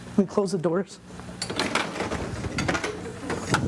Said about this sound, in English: Let me close the doors.